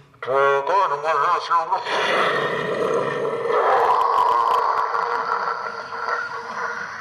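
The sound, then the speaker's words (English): A rocket launcher firing: a brief tonal, voice-like wail gives way to a loud, steady hissing roar that holds for about five seconds before easing slightly. “Now that is a rocket launcher.”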